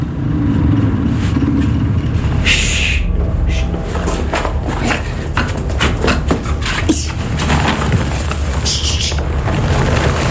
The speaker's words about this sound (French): On entend un bruit de moteur dans le lointain.